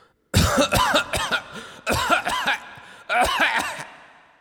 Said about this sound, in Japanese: すいません、今のちょっとエコーできますか、咳は。なんか深いでしょ、咳って深いです。咳が、ちょっと待ってください、咳一回いきますよ。ああいいです、咳の時、あでも咳いつ出るか分かんないのか、一回もう一回いきますよ、咳。